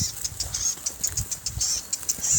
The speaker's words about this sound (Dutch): dit is een alarmerende zwartkop